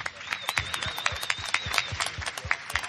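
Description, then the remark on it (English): A crowd of press applauds steadily after the introduction of director Zack Snyder, Amy Adams, Michael Shannon, writer David Goyer and composer Hans Zimmer. Dense overlapping claps form a continuous crackling roar at moderate volume, with no voices over it. “A massive torrent of applause from the press.”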